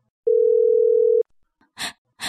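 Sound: phone call ringing unanswered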